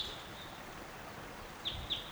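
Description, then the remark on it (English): A bird calls right above a camp with a few short, high chip notes in quick succession near the end, over a steady background hiss; a faint thin tone lingers beforehand. “Bird's right above the camp.”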